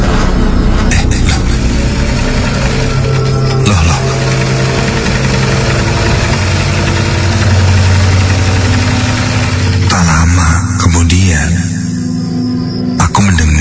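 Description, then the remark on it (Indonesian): A sewing machine runs steadily throughout, a loud, continuous mechanical whir with a fast rhythmic clatter that shifts briefly in pitch near the end. “Kok ada suara mesin jahit?”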